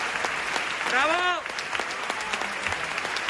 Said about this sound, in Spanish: Sin embargo, mira, fue una despedida emocionante, impresionante. La gente la ovacionaba. Mira, vamos a escuchar esos aplausos.